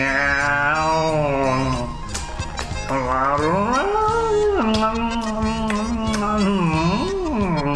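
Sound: cat growling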